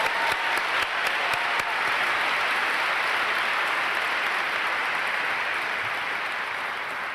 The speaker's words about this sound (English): So let's give Debbie another round of applause.